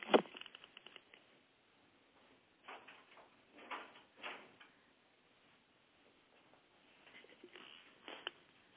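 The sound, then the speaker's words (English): A door is shut amid a series of soft clicks, knocks and shuffling handling noises, with quiet pauses between bursts and no one speaking. “Just before I do that, I'm going to take a 5-second break and close my door.”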